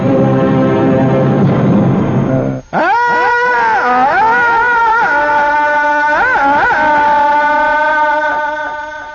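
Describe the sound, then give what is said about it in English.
A loud human voice lets out a jungle-style yell: a deep, gravelly bellow for a few seconds, then a long, high, warbling yodel-like cry that wavers up and down before fading. “That echoes throughout the jungle with a fantastic, blood-curdling, thrilling, frightening, horrifying, deep primal sound.”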